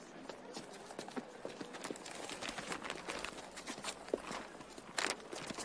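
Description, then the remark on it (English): A rapid, uneven series of sharp thumps, like a rubber stamp being pressed down again and again as part of a post office's new stamping system, continuing for several seconds over faint background noise with no voices. “No, Miss Gripslock, but we have a new system to help us. The stamping system. Stamp, Stanley.”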